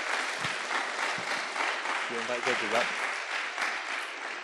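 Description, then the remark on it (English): Steady, loud applause from an audience fills the whole stretch, a dense wash of clapping with a brief voice or cheer rising through it midway, given for all the senior and primary contestants of a poetry performance contest. “Can we give all our contestants, senior and primary, one huge round of applause?”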